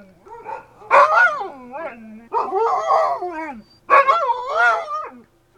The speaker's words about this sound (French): Quand j'arrivais à la maison, il faisait presque nuit, on avait fermé les portes, et les chiens se mirent à aboyer.